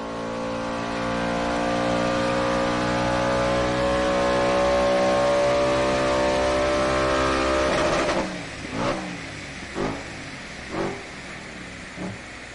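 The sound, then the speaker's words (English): The naturally aspirated 4.2-liter V8 engine of an RS4 car holds a loud, steady high-rev drone for several seconds, then drops and gives four sharp throttle blips, each rising and falling quickly, with no one speaking. “The engine was also completely different. It was changed to a 4.2-liter V8.”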